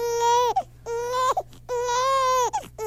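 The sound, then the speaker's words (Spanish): A baby girl who has just woken up wails in three long, high, sustained cries, each ending in a falling break, with brief gasping pauses between them and a low steady hum underneath. “¡Ay, no! se despertó la pequeñita.”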